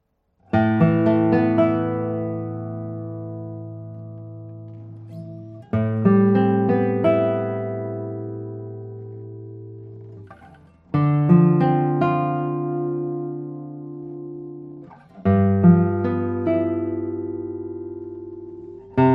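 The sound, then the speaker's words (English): Acoustic guitar chords strummed four times, each with a sharp, bright attack that rings out and slowly fades over several seconds before the next. The tones are rich and full, with no talking. The guitar is finely built, with decorative elements in the rosette, purfling and headstock. “Well, let's play a few tones on it.”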